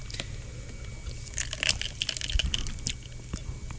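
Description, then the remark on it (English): A sip of a sugary Dunkin' Donuts iced coffee, with small wet slurping and crackly clicks, like ice shifting, bunched in the middle of a quiet stretch with a low steady hum underneath. “A sip? Yeah. Just to be with you right there.”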